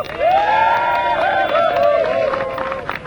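A crowd applauds and cheers steadily for about three seconds, with loud whoops and shouts rising above a dense wash of clapping that thins slightly toward the end.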